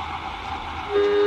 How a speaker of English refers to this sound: All right, exhaust the airlock. Exhausting airlock.